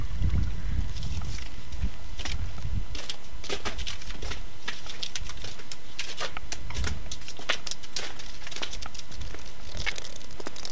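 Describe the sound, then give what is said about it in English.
Water rushing and gurgling down a drain that has just been cleared, a steady loud wash of noise with a rumbling low end and frequent sharp splashy bursts scattered throughout, with no voices. “Lots of water going down the drain there.”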